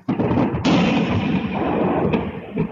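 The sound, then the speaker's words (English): Ukrainian air defense systems on the ground open fire at incoming Russian drones in a sudden, loud, continuous roar that starts abruptly and carries on without a break, with a couple of sharper cracks near the end. No one speaks. “Ukrainian air defense systems on the ground fired incoming Russian drones.”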